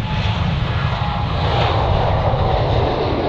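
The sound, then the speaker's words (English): A loud, steady roar of a jet airplane engine near an airport, a dense rumbling drone with a broad hiss above it, holding constant throughout with no talking. “And if you moved near an airport”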